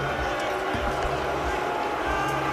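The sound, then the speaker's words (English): A large crowd in South Africa roars in a steady, dense wall of noise, voices merging into a loud, hostile reaction at a cricket match as the team takes the field and Steve Smith strides out to the middle, with occasional sharper shouts rising above the din. “Yeah, well, have a listen to the hostile reaction that they got in South Africa when they took the field.”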